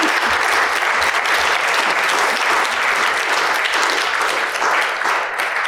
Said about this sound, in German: Und hier haben wir auch die Autorin oder eine von den beiden Autorinnen. Auch nochmal einen herzlichen Applaus.